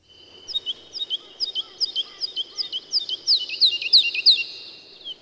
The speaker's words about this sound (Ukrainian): Їхали собі далі до містечка під той же спів жайворонка.